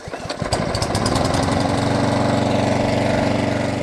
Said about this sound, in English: You'll usually find Catherine outside on her ride-on lawnmower, which she affectionately calls her tractor.